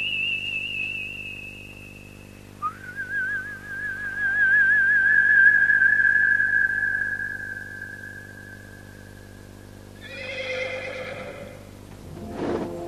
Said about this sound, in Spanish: Un caballo blanco galopa hacia el silbido de Gandalf. Es uno de los Meras, si mis ojos no me engañan por algún hechizo.